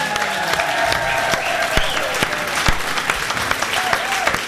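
An audience claps steadily in dense, sustained applause for Maria Mettral, loud and continuous throughout, with a few sharper individual claps standing out and faint cheers or voices mixed in.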